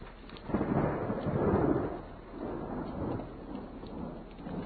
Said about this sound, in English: Yes, I think there is thunder. Okay, so I've learned that you can't hear the thunder when you're driving. But you sure can hear it when you stop, and that means it is around.